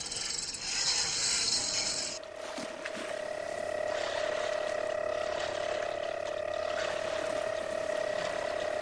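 A harsh mechanical rattling burst lasts about two seconds, then gives way to a steady, droning hum with a sustained tone as a boat engine starts up and keeps running before the boat leaves the dock.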